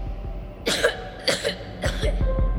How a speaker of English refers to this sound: He started coughing.